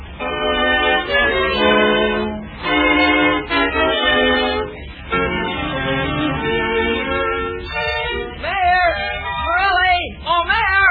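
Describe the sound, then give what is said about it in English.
A chorus of cats meowing in a house, several overlapping cries rising and falling almost nonstop, with drawn-out wavering yowls toward the end. “Why should I suddenly have to turn over my house to a bunch of cats?”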